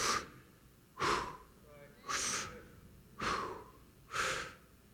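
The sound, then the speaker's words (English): A person imitates snoring, breathing in and out loudly and theatrically: five heavy, rasping breaths in a steady rhythm, verging on a snore. “Now, hopefully you're not doing it that loud, because if you are, you're probably snoring.”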